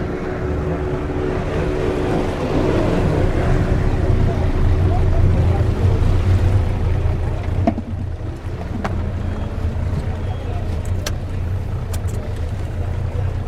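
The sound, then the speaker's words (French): A motorized catraille, a pirogue of the Oyapock river covered with a small roof against the rain, drones steadily in a low hum with water rushing alongside, the motor noise easing slightly partway through, followed by a few sharp knocks and clicks. “Tout se fait par catraille, c'est le nom des pirogues de l'Oyapoko.”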